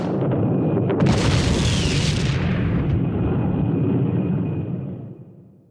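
A firework rocket, labeled a super three-stage rocket but actually having only two stages, goes off with a loud blast and a sharp crackling hiss, then a deep rumble lingers and slowly fades away. No voices.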